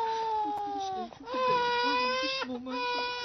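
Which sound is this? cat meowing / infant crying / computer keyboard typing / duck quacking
infant crying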